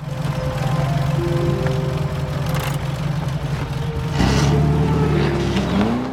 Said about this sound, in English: hurries over and desperately tries to crank the car.